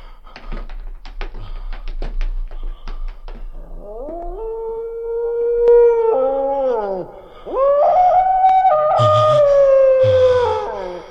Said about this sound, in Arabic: إنه كلب، إنه كلب.